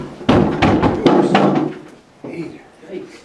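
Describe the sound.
A California state flag on its stand gets knocked over during a public meeting, a series of loud clattering thumps over about two seconds, then quieter shuffling with a murmur of voices.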